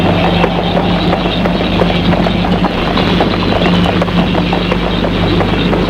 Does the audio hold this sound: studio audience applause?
no